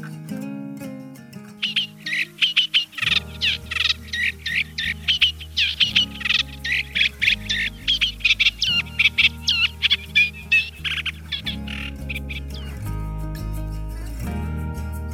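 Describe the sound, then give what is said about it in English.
A reed warbler sings a long, steady stream of harsh, chattering notes in quick repeated bursts, high-pitched and fairly loud, with soft, low music playing underneath throughout. “And now the reed warbler.”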